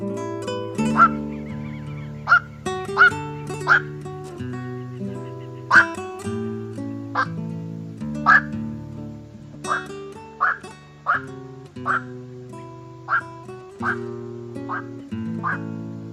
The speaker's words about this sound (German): Das war der Nachtreiher.